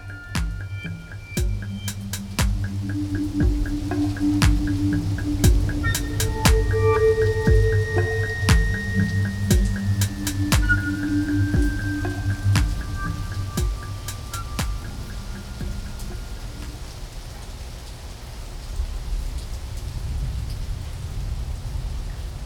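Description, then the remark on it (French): Steady monsoon rain falls as storms clear, with scattered, irregular drips tapping, over a low, continuous rumble and faint sustained tones. No one speaks. “Les orages s'éclaircissent et c'est la fin de la mousson.”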